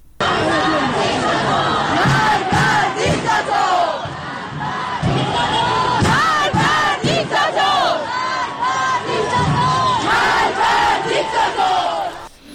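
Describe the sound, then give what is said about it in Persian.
A large protest crowd in Tehran, Iran, chants and shouts protest slogans in unison, loud and continuous, with rising and falling rhythmic cries and a dense wash of voices throughout. “در تهران تجمع‌های اعتراضی در شهرک غرب، شهرک سپهر، الحک، گیشا، بلوار فردوس، سعادت آباد، خیابان شریعتی و خیابان ولیعصر برگزار شد.”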